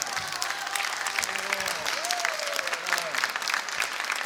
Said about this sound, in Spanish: Gracias. Fuerte el aplauso. ¿Le pedimos una más?